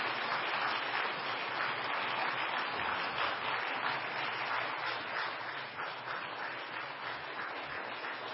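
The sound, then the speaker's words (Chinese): Sustained, steady applause from a large crowd welcoming a pastor, a dense wash of many hands clapping at an even loudness for several seconds with no voices standing out. “我们再一次用热烈的掌声好吗？热烈的掌声来欢迎唐牧师。”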